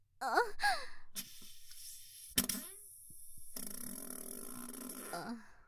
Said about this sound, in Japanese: またおならが。臭い。下品な母親ですいません。でも我慢ができなくて。